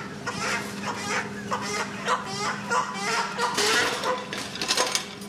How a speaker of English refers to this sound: Dozens of stacked metal cages line the hall of Manhattan Live Chicken Market, filled with red soup birds, white broilers, turkeys and ducks, pheasants and pigeons.